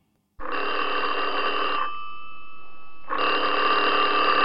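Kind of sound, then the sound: household object, telephone bell ringing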